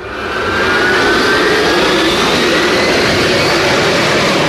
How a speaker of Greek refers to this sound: Στις 12 Ιουλίου του 1997, ένα αεροπλάνο των κουβανικών αερογραμμών απογειώθηκε από τη Σάντα Κρούς της Βολιβίας με προορισμό την Αβάνα της Κούβας.